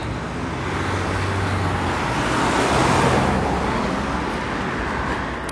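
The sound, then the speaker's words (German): Steady road traffic rumbles past on a street, a broad wash of engine and tire noise that swells toward the middle as a vehicle goes by, then settles back to a constant hum. “Über die Straße hier rüber gehen, wenn es dann der Verkehr zulässt.”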